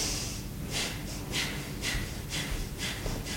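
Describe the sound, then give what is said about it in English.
A rapid, steady series of about seven forceful breath puffs pushed out through the mouth, each a short airy burst, fairly loud, with no talking. “No, you don't want to do a series of puffs. Each outward breath is a complete exhale.”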